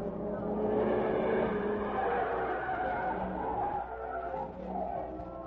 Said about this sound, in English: Look, car coming from meat company now. I hope this is it, kiddo. But wait till it comes through the gate and we'll follow.